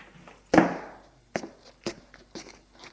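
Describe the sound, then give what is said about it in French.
Footsteps crunch over gravel: one heavy, scraping impact followed by four lighter, evenly spaced crunching steps, with no voices. “Et des pas sur le gravier.”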